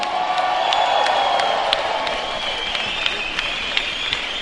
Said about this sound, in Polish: Szanowni Państwo, wielkie brawa, …!